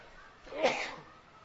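A single sharp, fairly loud sneeze bursts out, with a quick breathy build-up and a noisy release that trails off in under a second against a faint background hiss.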